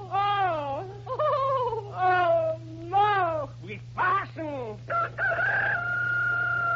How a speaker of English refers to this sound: That was the rooster. Oh, you think I'm terrible, don't you? You think I can't act as well as that rooster?